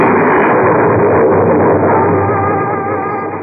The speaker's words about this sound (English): Suddenly, there was an ear-shattering thunderclap.